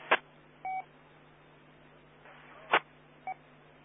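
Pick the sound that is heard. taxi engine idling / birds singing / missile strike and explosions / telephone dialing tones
telephone dialing tones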